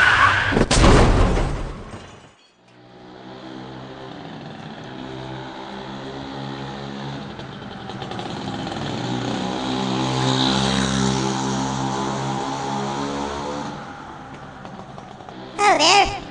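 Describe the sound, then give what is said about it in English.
A scooter engine buzzes steadily while riding in traffic on the I-195 interstate highway, its drone rising slightly in pitch midway, with wind and road rush around it and short louder bursts at start and end. “You didn't say anything about riding a scooter.”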